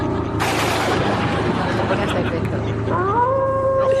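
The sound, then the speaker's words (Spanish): A person's voice imitates a dog howling, a drawn-out tone that rises in pitch near the end, following a brief burst of loud, noisy vocal sound. “Y aullidos.”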